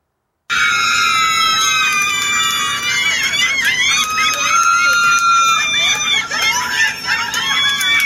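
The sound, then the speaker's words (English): A crowd at a gender reveal party erupts in loud, sustained high-pitched screaming and cheering, many overlapping shrieking voices rising and falling together for several seconds without a break. “These are people reacting to a fucking gender reveal party.”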